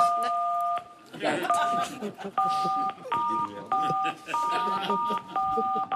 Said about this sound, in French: Alors, j'ai compris, c'était du morse en fait. Elle a dit ça va pas fort du tout. Je suis aux toilettes. J'ai une gastro, sauvez-moi s'il vous plaît.